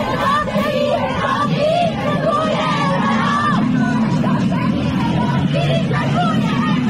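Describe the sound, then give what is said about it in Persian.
A loud crowd of women protesters in Sistan shouts slogans together in the streets on a Friday, voices overlapping in a dense, continuous roar with occasional louder calls rising above the mass. “معترضین فریاد میزنن که اعتراضشون ربطی به حجاب نداره و مسئله فراتر از این حرف هاست، همونجوری که زنان شجاع و فهمیده سیستانیمون جمعه که گذشت در خیابانها فریاد زدن.”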